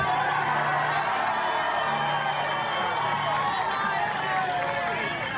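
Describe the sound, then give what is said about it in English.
A large crowd at a rally cheers and applauds in a steady, loud roar of clapping and voices that stays dense and continuous throughout, with no single speaker standing out. “And so listen to the crowd come around”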